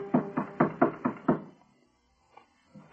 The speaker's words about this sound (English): She turned toward the door when Ngobe knocked.